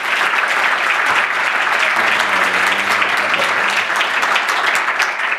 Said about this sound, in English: Hi, thanks so much for clapping, and thanks so much for CCC for hosting.